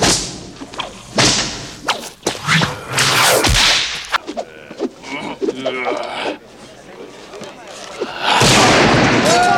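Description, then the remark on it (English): Whip cracks recorded by Gary Summers in quiet outdoor locations, among trees and in an open field, for Indiana Jones's whip sound: a series of loud, sharp cracks snapping at irregular intervals, some followed by brief echoing tails and whooshing swishes, ending in a sustained burst of crackling noise. “Gary did a lot of cracking of the whip, and we did it in different environments, in the trees, out in the middle of the field, and we built up a library of whip cracks, which was the basis for Indy's sound.”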